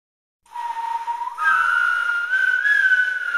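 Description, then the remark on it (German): A lone, slightly windblown human whistle in a forest starts softly on a steady note, then rises and wavers in pitch, with an airy, slightly breathy tone and no voices. “Mit einem etwas verwehten Pfeifen im Wald startet das neue Album”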